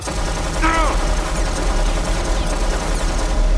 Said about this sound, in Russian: Громила палил, обстреливая колонну, та брызгала осколками.